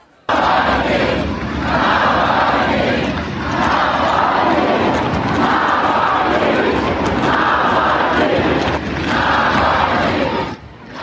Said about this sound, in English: But mostly, they just chanted Navalny's name over and over, as in this footage posted by Navalny allies from a rooftop overlooking the crowds.